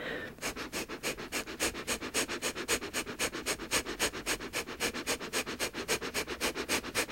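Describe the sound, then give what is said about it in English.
Fast, rhythmic breathing through the nose during a breathing exercise, about three sharp sniffing breaths per second, steady throughout, with no talking. “Gently begin your breathing.”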